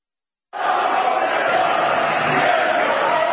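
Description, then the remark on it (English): A dense roar of a huge anti-government protest crowd in Belgrade, against mandatory COVID-19 mask orders, walking through a tunnel waving national flags and carrying a large banner; it starts abruptly after a brief silence and holds steady and loud, overlapping shouting and chanting voices with no single speaker standing out. “Here you see a massive crowd walking through a tunnel, waving their national flags, carrying a large banner.”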